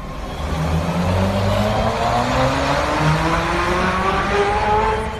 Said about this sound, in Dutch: Een vrachtwagenchauffeur trapt dus goed op het gaspedaal van zijn Tesla Semi. Of het stroompedaal, moet ik zeggen, want het is eindelijk aan het gebeuren.